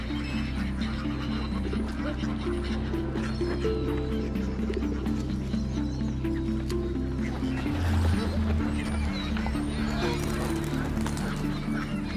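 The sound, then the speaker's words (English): Birds, including pigeons, call and chatter steadily at the water's edge in Hyde Park, central London, with pigeon-like coos mixed in, set against a continuous low musical drone that stays fairly loud the whole time. “Generations of Londoners have come here to feed the birds.”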